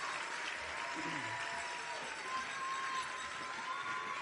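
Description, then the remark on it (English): Sustained audience applause, a dense, steady wash of clapping from a large crowd that holds at an even level throughout without letting up, for the final group of contestants, numbers 51 through 60, on stage at a final audition. “And keep that applause going for the final group of contestants, 51 through 60.”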